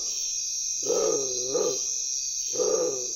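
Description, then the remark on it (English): A bare-throated tiger heron, recorded at nightfall, gives three deep, harmonic, moaning calls, two close together and one after a pause, over a steady high-pitched hiss of insects. “When I was making this recording of the bare-throated tiger heron, it was nightfall, And that's when this bird begins to call.”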